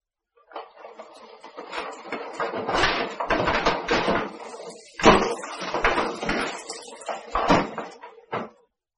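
Dishes clink and clatter irregularly, with plates and pots knocking together over a faint steady hum as one person washes the dishes and another dries them.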